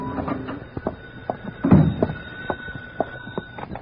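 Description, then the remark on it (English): An apartment door being unlocked and opened at 10 at night: a scatter of small metallic clicks and rattles, then a solid thunk midway, followed by a few lighter clacks as it swings. “My phone was ringing when I unlocked the door of my apartment at 10 that night.”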